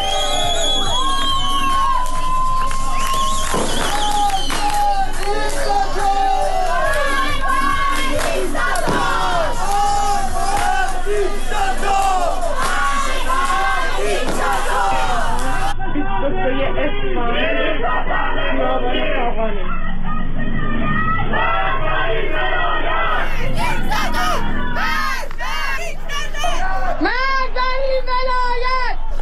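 Protesters in cities of Iran during Chaharshanbe Suri, marching, chanting slogans against the Islamic Republic and burning images of Khomeini and Khamenei: a dense crowd of many voices shouts and chants continuously, with rising cheers, whoops and high-pitched yells layered over a steady roar of people.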